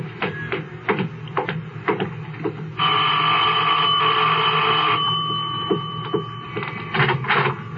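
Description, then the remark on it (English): The doorbell of an older, large house on Walter Road rings in one loud, unbroken electric peal lasting about two seconds, with scattered clattering knocks and shuffles before and after it and no one talking. “I'll get the bell.”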